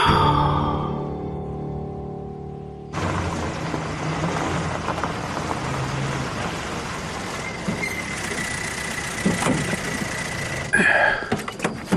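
A woman's car pulls up as she returns, its engine rumbling loudly and steadily for several seconds after a quieter, more tonal opening, with no one speaking.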